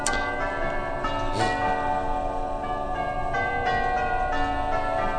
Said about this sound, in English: That's the Bob and Marty's clock.